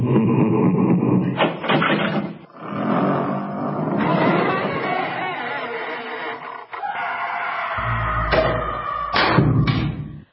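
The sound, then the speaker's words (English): A voice imitates a heavy dungeon door creaking open, with drawn-out groaning and squealing creaks, loud, ending in a few sharp higher squeaks. “Let's open the dungeon.”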